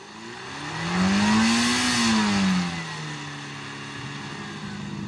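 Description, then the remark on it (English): A Hillman Imp van's 35 brake horsepower engine revs up with a rising, wavering whine, peaks, then settles into a steady drone as the van drives off, with no voices. “So with its steady 35 brake horsepower engine, its shiny paintwork and ability to tackle the biggest loads,”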